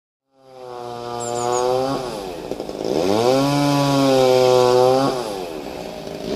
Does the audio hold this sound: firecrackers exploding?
no